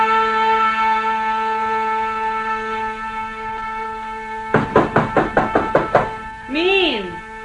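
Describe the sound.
A quick, even series of about nine firm, sharp knocks on a door, following a steady sustained hum, with a brief voice calling out just afterward.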